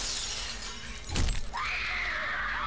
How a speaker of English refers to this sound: Then suddenly, he heard a shattering of glass from the 10th story window above his head.